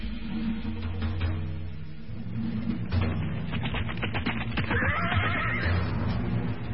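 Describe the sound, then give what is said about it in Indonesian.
A ridden horse is spurred into a gallop toward the onlookers, with a steady, rapid drumming of hoofbeats, then lets out a loud, shrill whinny partway through while the hooves keep pounding underneath. “Namun akhirnya mereka melihat seekor kuda yang dipacu menuju ke arah mereka.”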